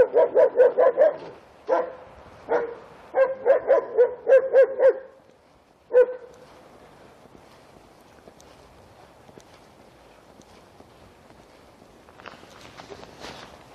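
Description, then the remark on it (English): A dog barks repeatedly in quick, loud bursts for several seconds as it goes by, then falls quiet as faint footsteps and shuffling continue, with a brief scuffling noise near the end. “I'm going to have to shut up for the dog to go by.”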